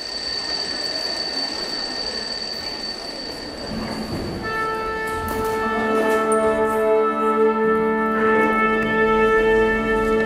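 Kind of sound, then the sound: signal or alarm, theatre bell ringing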